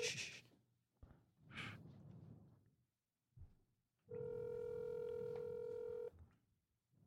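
A loud, steady electronic phone keypad tone holds for about two seconds as a cell phone number is dialed, preceded by a few soft breathy rustles and snorts.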